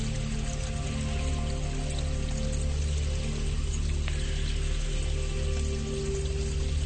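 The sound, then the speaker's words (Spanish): Clean spring water that has come out through the rocks flows steadily over stones in a mountain stream, a continuous, even rushing and babbling with a low sustained hum underneath. No one speaks. “Agua que ha pasado por muchos minerales y muchos filtros, y es agua limpia, pura y cristalina, a veces cargada de muchos minerales.”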